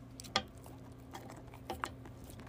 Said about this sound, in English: I got a new dog. Her name is Sadie. She's a Border Collie Corgi. She loves to chew everything.